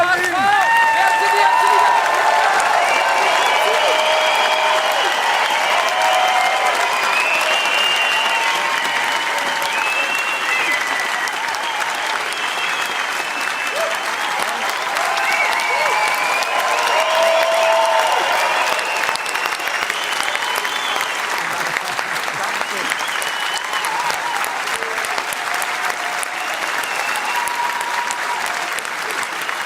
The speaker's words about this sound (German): Und ich wünsche mir vom Herzen einen riesen Applaus. Bitte steht alle auf, ein donnernden Applaus für den Coach.